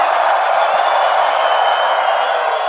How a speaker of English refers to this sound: On the count of three, I want everybody to raise their hands and scream. Uno, dos, tres, scream!